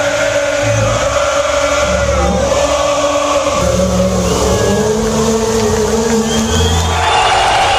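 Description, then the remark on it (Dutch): A big, dense crowd of football supporters on the pitch after the final whistle cheers and shouts continuously, dancing, jumping and hugging, over a steady roar with engine revving and low rumbling mixed in, loud and sustained throughout. “Na de laatste fluitsignaal liep iedereen hier het veld op, al de supporters stonden te dansen, te springen, te schreeuwen, elkaar te omarmen.”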